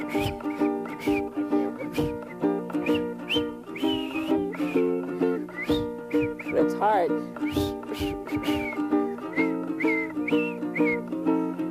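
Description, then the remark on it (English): Someone whistles a melody, clear, over a steady musical backing that plays continuously throughout, with short rhythmic notes rising and falling. “You whistle a while, and I'll whistle a while, in warm or wintry weather.”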